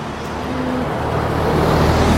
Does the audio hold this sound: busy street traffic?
yes